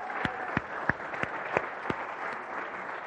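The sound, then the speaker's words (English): An audience applauds in honor of the lead pastor, a steady wash of many hands clapping with a few sharper individual claps standing out at a moderate, even loudness throughout. “I don't see him, but we can clap for him anyway.”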